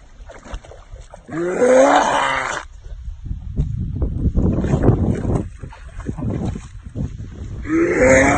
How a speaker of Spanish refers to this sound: El vídeo del perro que sale del río y le dan arcadas. Correcto, porque ha bebido con el río.